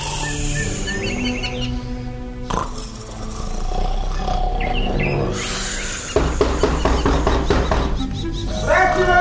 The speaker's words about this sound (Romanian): Cei doi frați ai lui Păcală au încuiat ușa și s-au culcat pe laviță. Și acum, după cum auziți, sforăie de parcă ar avea zbârnitori în nas.